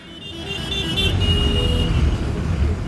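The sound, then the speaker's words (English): Dense road traffic rumbles steadily while a motorbike is ridden through it in sticky heat, swerving between cars, with a continuous low engine drone and a sustained horn-like tone sounding through the first second. “I jumped into traffic, and my mind kicked into gear.”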